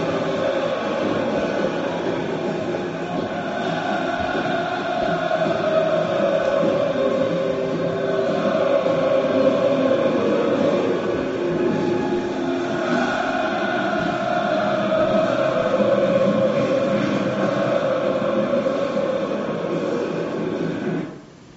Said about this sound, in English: They're just getting the crowd riled up. This noise right now, 80 to 90 decibels, probably more. But here they go. Now they're in unison.